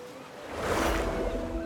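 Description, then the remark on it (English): A kayak paddles through ocean water, a steady wash of splashing and sloshing that swells partway through. No voices, just continuous water noise. “We call that paddling politely, say the scientists as they kayak off.”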